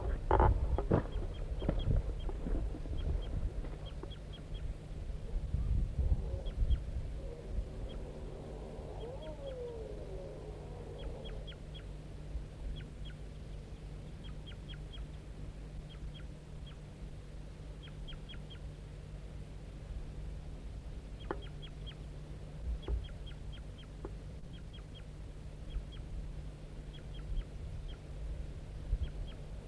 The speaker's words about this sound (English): So recording, I'm near the nest site and I hear vocalizing by crossbills. But I don't know what's going on. It's coming right from the nest area. Stop. So recording, the male is here, calling softly from the tree next to the nest.